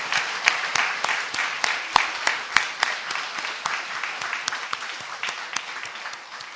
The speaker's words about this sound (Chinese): 我们这样的一些个朋友，如果你愿意回应这样的一个呼声，你愿意和我们一起相信，我们大家鼓掌欢迎你，你鼓掌来回应表示你相信好不好？